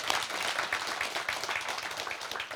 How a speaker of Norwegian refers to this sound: Gi en applaus.